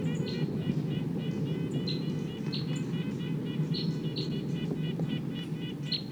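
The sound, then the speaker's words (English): A wild bird, its song sounding almost like that of bird 258, sings in repeated short, high, bright chirps at an uneven pace, set over a constant, dense low rumble of background noise. “The wild bird sounds almost like 258.”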